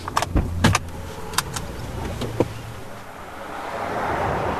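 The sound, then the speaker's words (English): Several thumps and clicks of people getting into a car, doors and seats being settled, come in a quick cluster, then a low engine rumble gradually swells. No one speaks. “As we hop in a car and travel from the 8 miles western branch to its eastern side”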